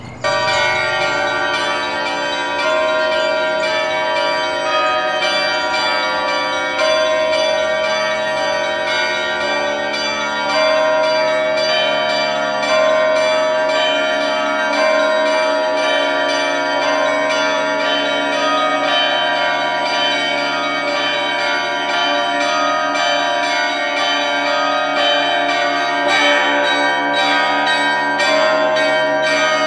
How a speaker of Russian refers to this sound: Давайте соберем все колокола, все 10, и зазвонные, и подзвонные, и благовестники в единый ансамбль. И вот они зазвучат. Это будет у нас праздничный трезвон.